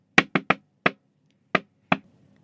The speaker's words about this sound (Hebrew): אתם יודעים שאם מישהו עושה... אז אתם יכולים להשלים לבד את ה... אנשים באוטו צופרים... ודופקים בדלת.